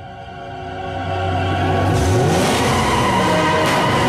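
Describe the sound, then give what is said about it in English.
During a high-speed car chase through a demolition site, with a red coupe pursuing a silver car, a car engine revs hard and climbs in pitch, with a second vehicle roaring past midway; loud, continuous motor noise and tire rush fill the whole stretch, no voices. “A high-speed car chase through a demolition site.”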